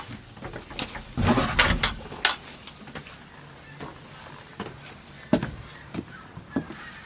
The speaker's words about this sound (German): öffnet die letzte Tür.